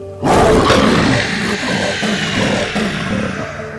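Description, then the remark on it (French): Loud, guttural roars from a horde of werewolves burst in suddenly and rage on for several seconds, rough, with overlapping growls and snarls layered together as they attack a village at the foot of the mountains. “La horde de créatures, assoiffée de vengeance, au pied des montagnes, attaquait le village avec une férocité inouïe.”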